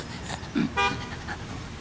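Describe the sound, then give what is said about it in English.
Street traffic in Times Square, New York, with a steady rumble of passing vehicles and a short, bright car horn blast rising clearly above the noise. “Times Square is very noisy.”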